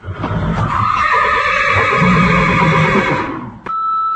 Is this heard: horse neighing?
yes